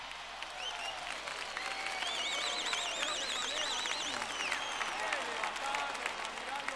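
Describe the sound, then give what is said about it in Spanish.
Steady audience applause after a masterful trumpet solo by Julio Padrón, dense and sustained for the whole stretch, with shrill warbling whistles and cheers rising over the clapping midway through. “Un aplauso para Julio Padrón.”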